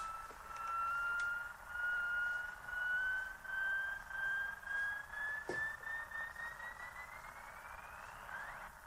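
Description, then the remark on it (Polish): A laptop charger's thin electrical whine as its power is switched off, a steady high tone that glides slowly upward in pitch for several seconds, with a faint wavering pulse and one brief click midway. “Lecz jeszcze ciekawiej brzmi wyłączenie ładowarki. Wyłączam zasilanie.”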